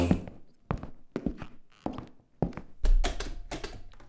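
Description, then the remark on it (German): Someone rattles and jerks a locked door handle, a series of metallic clunks and knocks that starts in irregular bursts and grows more rapid and forceful toward the end. “Die Tür ist abgeschlossen.”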